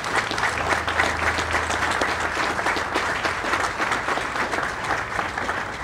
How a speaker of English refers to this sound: If you're able to stand and you serve this great country of ours as a veteran of the armed forces, would you please stand and share this this moment with me. Thank you. Let's give them a round of applause today.